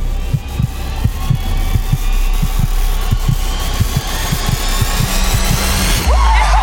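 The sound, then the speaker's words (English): A bongo drum is struck on stage over and over in uneven clusters: once, then a few more times, then a few more. It gives dull, low thumps over a steady droning hum, with a short rising whoosh right at the end. “He has a bongo drum, which he hits once, then a few more times, then a few more.”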